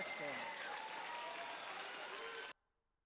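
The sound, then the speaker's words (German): A crowd applauds steadily for about two and a half seconds, a dense wash of many hands clapping that cuts off abruptly into silence. “Außerdem, ja, Applaus.”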